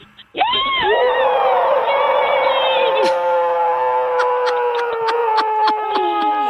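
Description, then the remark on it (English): A loud, agonized monster yell sound effect bursts out and holds for several seconds, a harsh wavering roar with rich harmonics that slowly sags in pitch, punctuated by brief sharp clicks toward the end. “No, that is our agonizing monster yell telling you, yes, you're going to Six Flags.”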